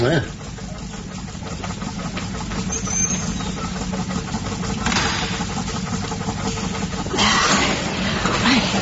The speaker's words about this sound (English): Oh, hold on a minute while I put my towel in the dryer.